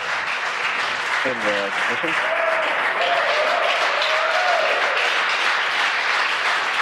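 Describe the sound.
A crowd cheers and applauds steadily during a rocket launch, a dense wash of clapping and excited voices with a few short shouts and whoops rising above the roar, continuing throughout.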